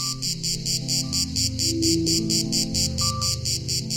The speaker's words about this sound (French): En France, il existe une vingtaine d'espèces de cigales, mais dans le sud du pays, celle que l'on connaît le plus, c'est elle, la Cicada horni, pour utiliser son nom latin, appelée aussi cigale grise.